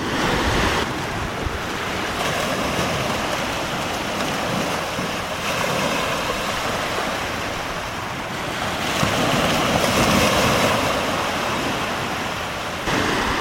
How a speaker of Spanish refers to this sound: Veo en mi mar que me da mucha, mucha paz. Estas olas que parece que me vayan a envolver me dan energía.